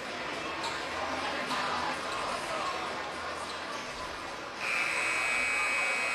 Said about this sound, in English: There's the buzzer. So that means we're ready to get underway here.